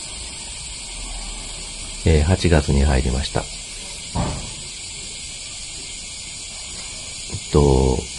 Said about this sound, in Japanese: 今月はですね、夏ということもあってセミのいる場所というか、セミの聞こえる場所ですかね、セミの鳴き声の聞こえる場所でお話ししようかと思うんですよ。今年はなんかすごい熊ゼミの当たり年らしくて、熊ゼミって本当はもっと南のセミだと思うんですけど、もう今僕京都にいるんですけど、この辺も熊ゼミの声が聞こえますね。